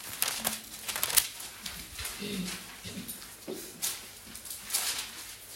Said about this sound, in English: I can still hear the rustling of the pages, so I'm just waiting.